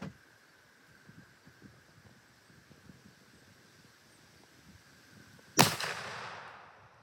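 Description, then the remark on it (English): A single loud rifle shot, fired while sighting in the rifle, cracks out after several seconds of quiet outdoor ambience with faint wind and rustling, its sharp report followed by a long, fading echo. “Shooting about an inch high, but that's nothing too horrible.”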